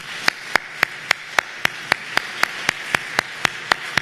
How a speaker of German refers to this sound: Ich denke, die beiden haben mal einen großen Applaus verdient.